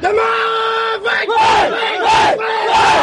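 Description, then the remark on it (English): A baseball team in Myanmar cheering in unison: one long, held shout from many voices, then three loud rhythmic chanted bursts, each rising and falling in pitch. “Like the language that they use and the cheers that they do.”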